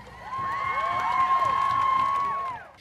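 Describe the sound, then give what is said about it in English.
A crowd at Code Pink's Saturday demonstration at the White House cheers and whoops for a few seconds, a shrill steady whistle cutting through the roar of voices before it quickly fades out. “Susan Griffin, writer and social thinker, addressing the crowd gathered for Code Pink's demonstration on Saturday at the White House.”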